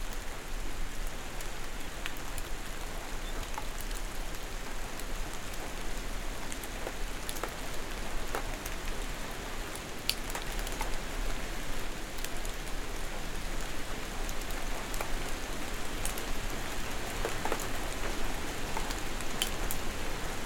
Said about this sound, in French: C'est la nuit. Une légère ondée de pluie.